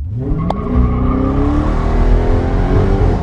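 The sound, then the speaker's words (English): A loud car engine roars at high speed, around 100 miles per hour on a highway, its steady drone shifting in pitch as it rushes past, with a brief sharp click near the start and no voices. “If you live in Michigan, you've undoubtedly had a car whiz by you on the highway at something like 100 miles per hour.”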